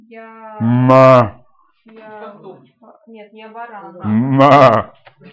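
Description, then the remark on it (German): A person imitates a sheep with two loud, drawn-out bleats, one at the start and one near the end, with softer voiced murmuring in between. “Weil ich bin nicht der Heilige Geist. Ich bin ein Schaf.”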